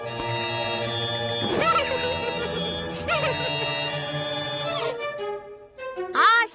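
Someone blubbering and sobbing loudly behind a door, with drawn-out wailing cries that rise and fall in pitch, breaking into fresh sobs every second or two, continuous for several seconds.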